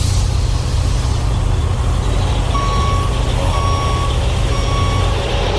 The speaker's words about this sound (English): You don't want a warning, this vehicle is reversing kind of thing. No. That's a bit too much.